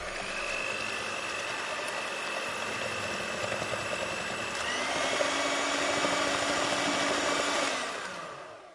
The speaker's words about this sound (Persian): مخلوط کن و روشن کنین. یه دونه پوره خوشگل از این گوجه فرنگی های خوشگل یه دست رژین در بیارین.